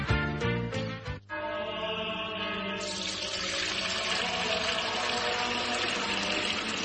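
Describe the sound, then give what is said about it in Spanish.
Fuente Umbría spring water is poured into a container to refill it: a few glugging bursts at first, then a steady, loud, hissing stream that continues to the end, with no one speaking. “Padre Gilberto, ¿qué hace? Hermano Pedro, es que no nos quedaba agua bendita. Agua pura de manantial Fuente Umbría.”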